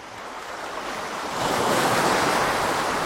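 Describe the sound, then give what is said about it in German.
Gentle waves wash against a harbour pier in the south of Lampedusa, Italy, in a steady rush of water that swells a little louder partway through, with a light breath of wind and no voices. “Sanft brannten die Wellen an die Mole im Süden von Lampedusa.”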